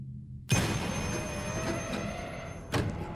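An old black telephone, disconnected and mounted on a wall, bursts into loud ringing, a sustained metallic jangle that carries on before a second ring starts near the end. No one speaks.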